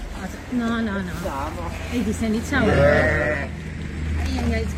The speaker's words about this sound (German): Sie sehen hier ungefähr 50 Schafe, die am Montag einen Supermarkt in Unterfranken gestürmt haben.